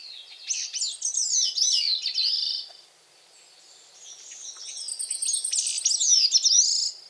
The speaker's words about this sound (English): Yet each year, this little songbird makes the long journey from the Caribbean islands to the forests of the northeastern coasts of North America to make a call that a few of us may be lucky enough to hear in person.